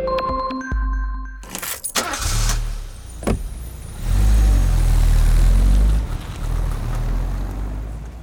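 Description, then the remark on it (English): A car engine rumbles, starting after a few brief clicks and tones, then swelling into a loud, deep, steady roar midway before easing back down. “Some car sounds are more obvious, like the horn or the engine.”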